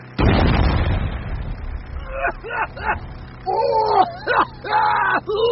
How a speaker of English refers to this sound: Stand by the fog machine! Two explosions! Action!